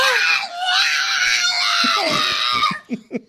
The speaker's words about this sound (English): Is that a cat? That's Megan, the screaming pug. Oh, it's one of the greatest noises on the internet. Can you imagine having something in your house that makes that noise?